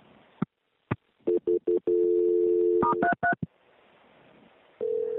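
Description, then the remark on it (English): A rapid series of telephone keypad tones beeps out as a call is transferred, short clicks and bursts before a longer steady tone, then a few more quick dialing beeps and a final tone, clear with no talking. “Let me try it one more time before I transfer you.”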